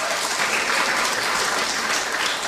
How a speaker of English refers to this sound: Can we round of applause for our Girls Brigade and Boys Brigade?